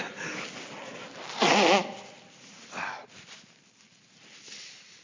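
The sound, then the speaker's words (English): Someone blows their nose into a Kleenex tissue: one loud, honking blast lasting under half a second, then a shorter, softer blow, followed by faint rustling and sniffling. “Excuse me, let me give a Kleenex here. Blow my nose.”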